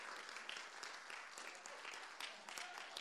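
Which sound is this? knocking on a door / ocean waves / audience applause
audience applause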